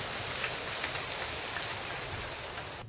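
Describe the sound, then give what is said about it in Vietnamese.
A church audience breaks into sustained applause for a woman coming up to give her testimony, a dense, even wash of many hands clapping that holds steady for about three seconds with no voices over it. “Rồi chúng ta cho một tràng pháo tay với người chị em này.”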